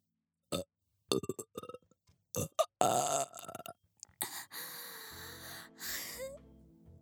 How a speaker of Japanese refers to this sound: すごいの出ちゃった。こんなゲップ初めてだよ。